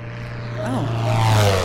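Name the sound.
airplane engine drone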